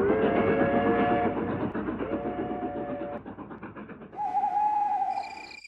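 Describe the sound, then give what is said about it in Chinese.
A train rumbles past overhead, above three people on the ground near Changbai Mountain, heading off into the distance: a loud, continuous mechanical roar with clattering and sustained whining, squealing tones that shift in pitch as it moves along. “火车隆隆地从三个人的头顶驶过，向着远方开去。”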